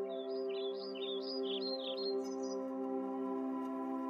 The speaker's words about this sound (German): Und du hörst, wie die Vögel dir fröhliche Lieder vorzwitschern.